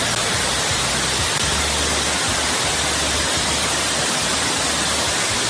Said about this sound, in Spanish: Es el sonido de la lluvia al caer de manera copiosa. ¿Lo recuerdas, verdad? Bueno, pues ayer lo recordaba a partir de las 5 los vecinos de Navalvillar de Pela. Tremenda tormenta la que cayó en un momento